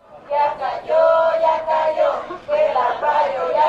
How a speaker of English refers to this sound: So last night in Phoenix, immigrant activists gathered in front of a huge balloon of Arpaio wearing a prison stripe uniform, and they were chanting in Spanish, and it roughly translates to Arpaio has fallen, or we took Arpaio down.